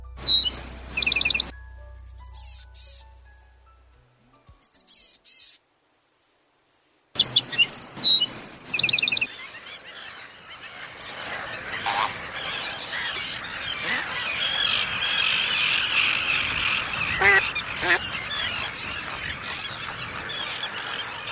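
Birds chirp and call in short bright bursts separated by brief pauses, then settle into a steady, dense chorus of overlapping songs and twitters that continues to the end, with no voices.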